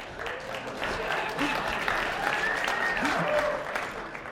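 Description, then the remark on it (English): An audience claps steadily for about four seconds, a dense wash of many hands, with scattered voices calling out over the applause. “Like, so half of you say good morning and half of you clap.”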